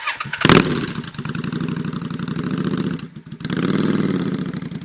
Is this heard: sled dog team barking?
no